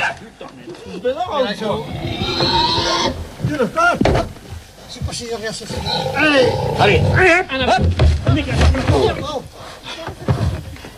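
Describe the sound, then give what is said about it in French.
A pig of about 180-190 kilos squeals and screams loudly and continuously while held down by five or six men in the snow, a bucket under its head, harsh shrieking cries rising and falling while several people talk over and around the commotion. “Sous la tête du cochon.”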